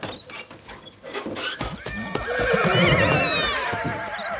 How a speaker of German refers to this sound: Und da wird sie von ihren 26 Pferden mit großem Hallo empfangen.